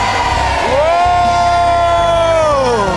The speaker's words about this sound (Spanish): Recíbanlo ahora en el nombre de Jesús, y la iglesia que lo cree grite fuerte amén.